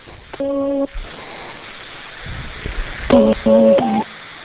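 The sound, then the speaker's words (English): Electronic telephone dialing tones come through a phone line as a live prank phone call is placed to a 24-hour Walgreens: one steady beep, a pause of faint line hiss, then a quick run of three short tones in a row. “Live prank phone.”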